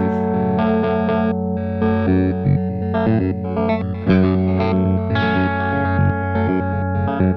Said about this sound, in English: Arpeggiator. Oops, here we go. All right.